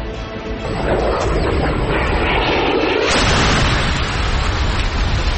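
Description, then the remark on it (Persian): A loud explosion of Hellfire missiles fired by a drone at the vehicles carrying Qasem Soleimani and al-Muhandis, 100 metres from the airport security exit, bursts in and swells into a rumbling roar, with a second blast surging around the midpoint before a long, heavy, noisy tail of debris and rumble. No voices. “خودروها که به 100 متری خروجی محوطه امنیتی فرودگاه رسیدند، یکی از پهپادها دو موشک به سوی خودروی حامل سلیمانی و المهندس شلیک کرد.”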